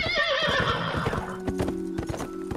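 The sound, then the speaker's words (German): A horse whinnies loudly at the start, its neigh wavering and fading, while hooves clip-clop in a steady rhythm throughout, clear with no voices. “Der sogenannte Cursus Publicus beförderte Post per Schiff oder Pferd.”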